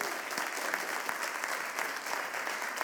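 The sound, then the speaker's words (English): A crowd claps steadily for the musicians, a dense, even wash of many hands with brief sharper claps poking through, sustained at a fairly constant level with no voices. “And if you can't find religion, hearing the beautiful musicians do their work today, so could we thank them for their ministry to us?”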